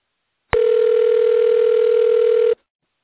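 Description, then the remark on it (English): A single steady electronic ring tone over a phone line, lasting about two seconds and starting with a click, fairly loud with no voices. “This will be the first Heart Start call we've had where there's a phone ringing on the recording.”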